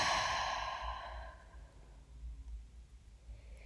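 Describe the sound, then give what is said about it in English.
A single long, deep exhale through the mouth after holding the breath, during a guided breathing exercise, breathy and airy, strongest at the start and fading gradually over about a second and a half into quiet background noise. No speech. “So breathing deeply, I want you to hold the breath, keep holding, and exhale through your mouth.”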